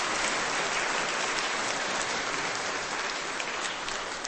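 Sustained applause from a large audience in a parish, given for the parish priest and the other priests, a dense steady wash of clapping hands that stays loud and even throughout with no voices on top.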